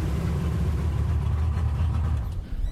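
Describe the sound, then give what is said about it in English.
A boat motor idles in a steady, low rumbling drone that holds at an even loudness throughout, with no voices over it; Dan Mundy's boat being tied up right outside the back door of his house. “Dan Mundy ties up his boat right outside the back door of his house.”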